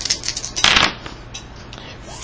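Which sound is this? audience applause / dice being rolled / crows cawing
dice being rolled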